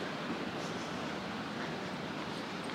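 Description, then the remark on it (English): A steady, unbroken rush of running water, constant throughout, with a broad hissing texture and no voices or other distinct sounds. “There's more running water here.”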